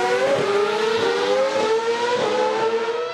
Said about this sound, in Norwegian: Hør de hylende motorene der. Ja, det helt spinnvilt.